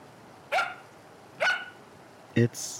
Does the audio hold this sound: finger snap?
no